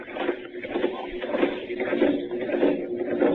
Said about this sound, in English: You hear me? Pumping the air out of the room.